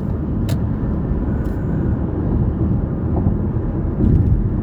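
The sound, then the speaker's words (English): A truck driving behind the speaker's vehicle on the road rumbles, a steady, heavy low roar of engine and tire noise that holds constant throughout, with no voices. “This truck behind me wasn't wanting to let me over.”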